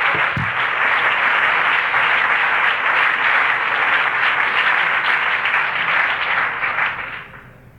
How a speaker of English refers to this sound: And why don't you clap your hands unto the Lord right now and give Him praise.